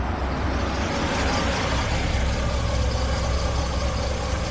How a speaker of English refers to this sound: I threw the car into park, but I left the engine running.